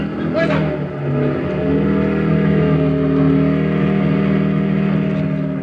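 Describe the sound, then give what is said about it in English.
A borrowed, parked motorcycle's engine revs up loud, then settles into a steady, throaty drone as it drives off, with a brief rattle near the start. “Then I borrowed a parked motorcycle. Just as the Germans were spilling out the front door, I drove off”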